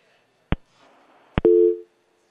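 Sharp clicks on a phone line, then a short steady electronic busy tone sounds once, clear, over faint line noise, as a cell phone call to a radio sports show drops.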